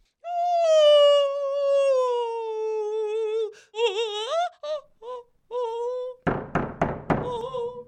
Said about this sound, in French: Mais non ! Cette fois, on frappe à la porte !